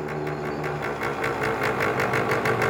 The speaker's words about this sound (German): Das ist ein Traktor, keine Nähmaschine. Der Traktor macht Töff, Töff, die Nähmaschine Ratter, Ratter.